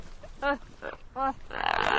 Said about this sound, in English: Now, let's listen to the gelada monkey again.